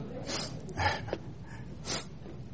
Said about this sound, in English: Please pardon my sniffles.